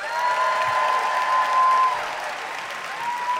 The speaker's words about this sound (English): All right, by applause, who cheers for the pro side?